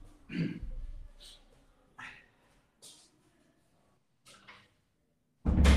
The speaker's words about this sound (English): Wait, I have to close my door here.